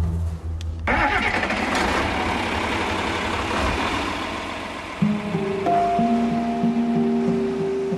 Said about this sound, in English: you want to help me get the tractor hooked up and we can get this started? Yeah. All right, let's go.